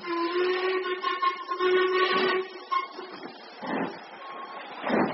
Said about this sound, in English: Listen. What is it? Victoria Station. Precisely what I foresaw.